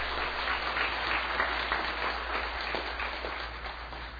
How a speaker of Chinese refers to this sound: 好，我们这位就我们当中有几位的弟兄姐妹来到我们当中，我们鼓掌欢迎你。